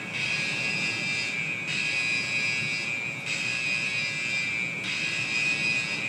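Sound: alarm sounding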